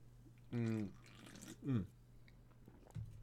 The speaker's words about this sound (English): Hold on a second. Let me have a sip of this.